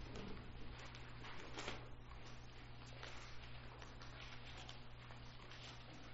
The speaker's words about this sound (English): I do not like Bible paper. Hard to turn pages.